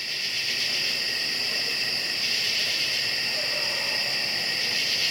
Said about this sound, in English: So I head down the hill to record the summer crickets and katydids in stereo.